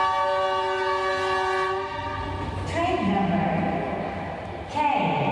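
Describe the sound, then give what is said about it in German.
A high-speed train, the first in Laos, pulls into the station hall in the capital Vientiane with a sustained, steady horn tone and rumbling rail noise, then fades into echoing station ambience with indistinct voices and brief metallic sounds. “Gerade ist der Zug eingefahren, ein hochmoderner Schnellzug, der erste des Landes.”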